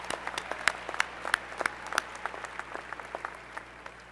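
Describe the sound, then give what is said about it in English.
A crowd applauds steadily at a January graduation ceremony, clapping for the graduates' family and friends, many hands in a dense, irregular patter with sharp individual claps standing out, moderately loud. “Degree candidates, please join me in a round of applause for these family and friends that made this possible.”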